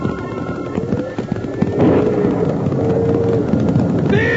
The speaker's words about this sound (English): But just then, a big crack of thunder spooked the cattle and a stampede was on, with Jingles right in the path of a big steer gone mad.